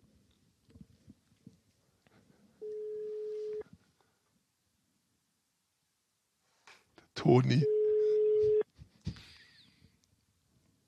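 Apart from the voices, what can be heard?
phone ringing tone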